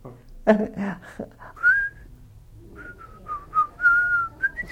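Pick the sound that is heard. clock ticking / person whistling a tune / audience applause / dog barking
person whistling a tune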